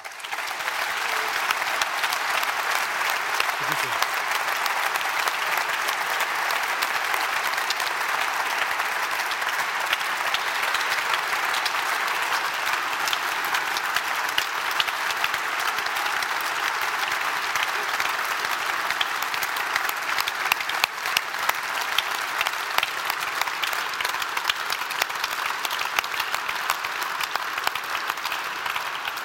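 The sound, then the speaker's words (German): Sustained audience applause for Martin Schulz receiving the Goldene Victoria award, a dense, steady wash of many hands clapping at an even loudness for the full half minute, with no voices rising above it. “Nehmen Sie diesen Applaus und viel Kraft mit für all die aktuellen Herausforderungen und die, die da noch kommen werden.”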